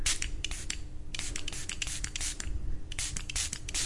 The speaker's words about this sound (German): Die sind schon ein bisschen vertrocknet und gar nicht mehr so schön nass, wie sie vorhin waren. Ich sprühe die mal mit Wasser nochmal vorsichtig ein, dass sie wieder so aussehen wie vorhin.